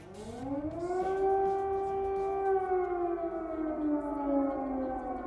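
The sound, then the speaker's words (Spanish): An air raid siren in Ukraine during the war wails steadily, its tone rising at the start and then holding a long, slowly falling note, loud and sustained over a low background rumble. “2 años de sirenas, de bombas, de mirar al cielo, de preguntarse por qué, cómo, hasta cuándo.”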